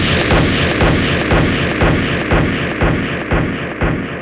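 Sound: pistol gunshot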